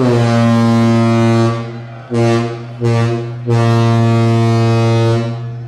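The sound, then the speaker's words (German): Deep ship horns blare together in loud blasts marking the official opening of Kiel Week 2009 in Kiel, Germany: one long sustained tone, two short honks, then another long drawn-out blast, with no one speaking. “Aber mit Glasen und OB-Rede ist es ja noch nicht getan, denn es fehlt noch der 3. Schritt, nämlich das Tröten. Und das hören wir jetzt auch nochmal.”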